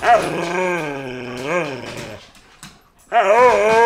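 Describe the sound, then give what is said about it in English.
A female dog, Luna, growls and whines in a long, wavering, sing-song vocalization that rises and falls for about two seconds, pauses briefly, then starts up again just as loudly. “She literally is never quiet.”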